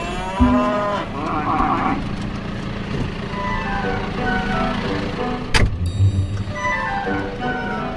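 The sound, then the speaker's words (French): Several cows moo in long, drawn-out calls, some overlapping, with a steady low rumble of an engine or vehicle running underneath throughout. “Toujours un air un peu bizarre, les vaches, non ?”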